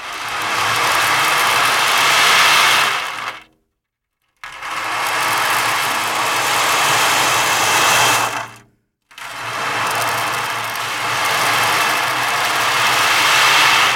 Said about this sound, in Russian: Вот барабан с прозрачным дном. А, это называется шумовой эффект «Океан». Давайте сначала его послушаем.